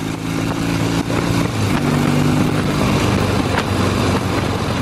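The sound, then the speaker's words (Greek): A Triumph Bonneville motorcycle engine rumbles loudly, its throaty tone rising and falling as the throttle is worked, with no voices. “Η Triumph ευτυχώς εξέλιξε ανάλογα για τη μηχανή αυτή μέχρι τις μέρες μας. Bonneville τώρα βέβαια τα άλλα έφυγαν.”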